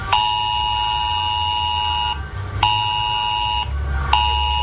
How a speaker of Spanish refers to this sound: nos llevábamos un susto, pero era una alerta de Protección Civil a todos los móviles en riesgo en la demarcación en la que va a estar en alerta roja, alerta de Protección Civil de inundación en el litoral sur de Alicante por fuertes lluvias